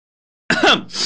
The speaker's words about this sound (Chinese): 打喷嚏